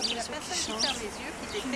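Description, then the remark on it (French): A bird calls with a quick series of high, thin chirps over a steady outdoor background, with some lower, murmuring tones running underneath throughout, recorded on a sound walk in the Pardieu neighbourhood on Saturday 20 May 2017. “avec un oiseau.”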